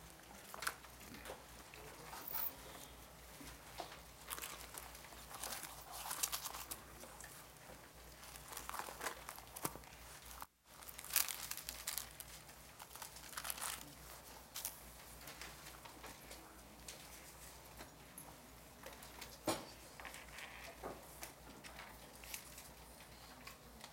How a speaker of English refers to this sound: I still hear some pages turning.